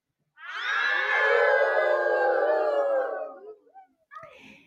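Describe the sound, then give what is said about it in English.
A wolf, the one Little Red Riding Hood meets on her way in the tale, howls in one long, sustained, wavering cry lasting about three seconds, loud, then trails off into a few brief softer yelps. No one speaks. “On her way, Little Red Riding Hood met a wolf.”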